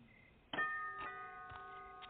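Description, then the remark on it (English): A doorbell at a house is rung by a trick-or-treater: a bright struck chime tone followed by several softer repeated strikes roughly every half second, their ringing tones overlapping and lingering, with no voices. “I'll ring the bell.”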